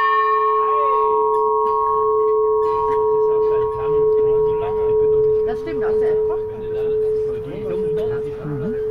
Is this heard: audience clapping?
no